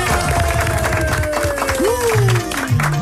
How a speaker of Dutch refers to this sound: Applaus, baby!